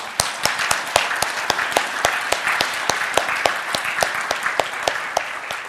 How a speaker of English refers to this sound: Go ahead and stand. You never get a chance to do this ever. Let's applaud this.